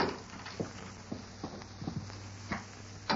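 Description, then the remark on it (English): Slow footsteps crunch along at a steady, slightly uneven pace as people approach the Bar F Ranch house on foot after leaving their horses by the corral, each step a soft distinct thud, growing a little louder toward the end. No voices. “They left their horses by the corral and approached the house on foot.”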